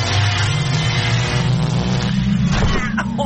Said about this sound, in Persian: خب ماشین زمان جان روشن شو بریم ببینیم چه خبره، یا شانس و یا اقبال.